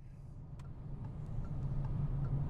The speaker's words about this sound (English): Well, we're in the car driving through upstate New York, heading towards southern Vermont, and we're driving, rather appropriately, quite close to Halloween in beautiful autumn colours.